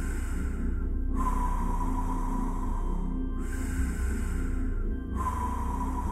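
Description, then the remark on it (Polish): Slow, deep breaths drawn in and let out in a steady rhythm, about three full cycles, soft, with a low ambient hum underneath and no talking; each breath fills the belly first, then moves the chest, then is exhaled. “I możesz taki oddech robić płynnie łącząc brzuch z klatką piersiową.”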